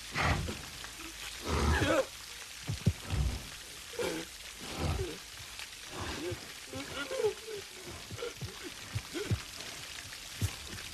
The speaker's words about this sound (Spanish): Y ahí escuchamos los pasos del oso, que se va alejando.